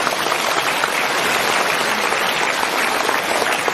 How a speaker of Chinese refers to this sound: 让我们用掌声感恩台长为我们看图腾，